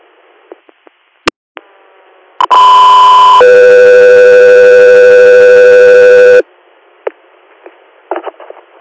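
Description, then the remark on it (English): A loud two-tone radio dispatch alert tone for the unit Echo 3 Air: a short higher tone steps down to a longer, steady lower tone lasting about three seconds, framed by faint radio static and clicks, with no talking. “Echo 3 Air, stand by for tone.”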